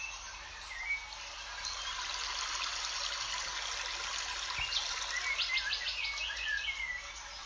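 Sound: birds singing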